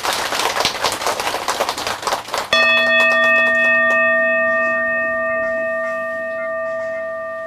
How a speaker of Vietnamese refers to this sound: Nếu quý vị hoan hỷ với đề nghị này đó thì cho một tràng vỗ tay thật lớn nào.